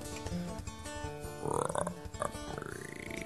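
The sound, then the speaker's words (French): Children's voices imitate frog croaks, making rough, guttural throaty sounds that overlap in a steady run, growing louder midway and ending with a rising, drawn-out croak. “D'abord, elles ne parlent que le langage des grenouilles, quoi, quelques-unes disent.”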